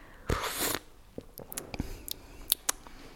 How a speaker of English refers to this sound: Will you demonstrate slurping for us? Yes, I will. So here we are, slurping the tea.